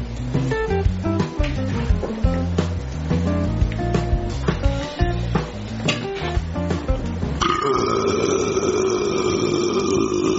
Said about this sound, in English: Did you hear that? I could burp like that too if I had a drink or something other than green beans.